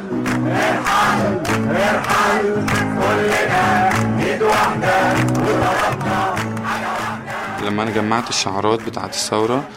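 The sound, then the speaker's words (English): A large protest crowd in Tahrir Square chants loudly in unison along with a singer, repeating the word "Irhal" ("go"), the rhythmic vocal phrases repeating steadily over a dense, roaring wash of many voices. “where at one point he would sing Irhal, Irhal, and the crowd would chant with him.”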